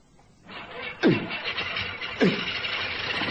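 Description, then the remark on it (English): A propeller plane engine, started by hand-swinging the propeller, cranks and sputters to life with two sharp, coughing bursts, then settles into a steady, rough roar. No one speaks. “I'm going in now, and you swing the prop.”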